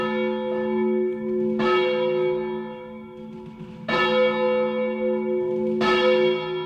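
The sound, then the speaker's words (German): The bells of the cathedral La Ciu in the centre of Valencia ring out in a slow, overlapping peal, each strike blooming into rich, sustained harmonic tones that hum and fade. Three strong strikes stand out, with no voices present. “Ihr hört schon, wir sind in der Kathedrale La Ciu.”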